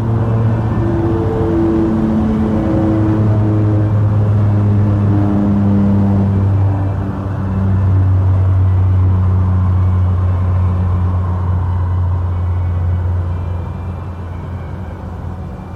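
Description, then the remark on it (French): A car engine rumbles steadily as board members are driven to company headquarters, its deep drone shifting in pitch as it accelerates and revs, then eases slightly quieter near the end. No voices. “Ensuite, ils sont amenés en voiture jusqu'au siège.”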